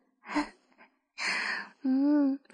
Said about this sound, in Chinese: 不要压抑自己的喘息声，哥哥，我很喜欢听你喘的。